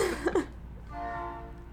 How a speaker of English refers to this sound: I'm sure this is going to inspire one of your paintings, the sound of the train.